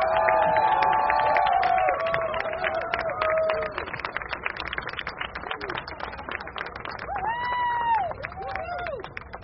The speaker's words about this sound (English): So join us in a rousing applause for Naomi Klein.